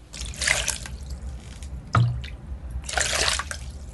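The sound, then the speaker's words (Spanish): Water splashes in two short pours a few seconds apart, with a sharp knock or splash between them, moderately loud, with no talking: water emptied from the shoulders over a girl hopping inside a bucket, splashing onto a dirt floor. “La bruja le vaciaba el agua desde los hombros y la muchacha daba saltitos dentro del cubo, rociando el piso de tierra de la sala.”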